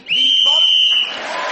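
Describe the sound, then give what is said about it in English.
A single loud, steady, shrill whistle blast lasting about a second, blown to end a round while Graham Norton was speaking, cutting off as a wash of audience noise rises behind it. “So, Graham Norton then speaking as the whistle went, gained that extra point.”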